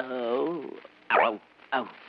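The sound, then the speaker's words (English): A man imitates a lion's growl with a drawn-out, wavering vocal rumble, then two short, harsh breathy bursts. The imitation is fairly restrained rather than loud. “You'll either muff it again and become Mary's lapdog, who can't smoke or drink or feed the pigeons in the park, or you'll be boss, the head of this company, and the lion at home. You growl once. Let's hear you do it again”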